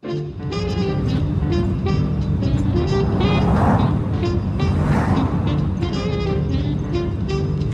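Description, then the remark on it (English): A steady, loud car engine rumble drones throughout, with a low hum and a couple of brief swells of rushing noise midway, and no voices. “Alexander's in his car.”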